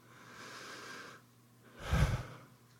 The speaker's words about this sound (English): That is God breathing through you. And that's why the breath has become such a sacred symbol in all kinds of spiritual paths. The sacredness of the breath.